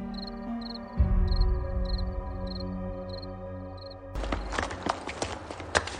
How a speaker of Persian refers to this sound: صبح با صدای پای سربازان هراسان از خواب پرید.